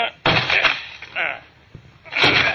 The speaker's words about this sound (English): Come on, let's break down the door.